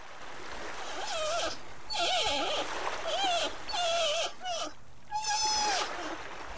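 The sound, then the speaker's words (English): Sea otter calls: a series of high, wavering squeals in several bursts, some rising and falling, over a steady background wash. “Yahutch. Sea otter. Yahutch.”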